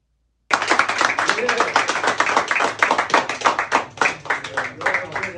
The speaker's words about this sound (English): He goes to the barber shop and a fun time there. Everybody welcomed him. Big crowd outside, big crowd inside. Everybody cheered him on. They all loved him.